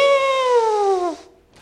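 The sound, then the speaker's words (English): A person imitates an elephant with one loud, sustained, nasal voiced call that starts high, slides gradually downward in pitch for about a second, then cuts off into silence. “Now, I am not a good impersonator, but that's the sound of an elephant.”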